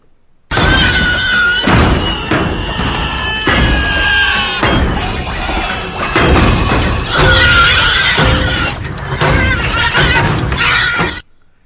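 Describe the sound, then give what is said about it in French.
A loud, harsh robotic cry built from a pig's squeal, a grinding, distorted screech that surges in repeated bursts for about ten seconds, alone, with no talking. “C'est le bruit d'un... C'est un porc.”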